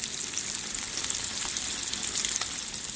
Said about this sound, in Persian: برگری که با این روش ساخته شده موقع سرخ کردن مثل گوشت واقعی جلز و ولز میکنه.